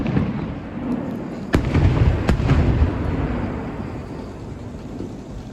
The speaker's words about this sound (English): Can we cut to some of the fireworks? I thought, because, you know, it was a minute since I saw fireworks. So we're at Mon City enjoying the fireworks show at Mon City, Pennsylvania.